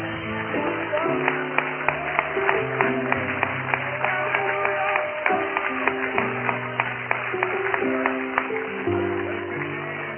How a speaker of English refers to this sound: Would you clap your hands to the Lord right now? Oh!